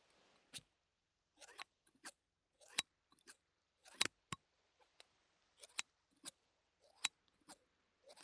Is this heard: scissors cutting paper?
yes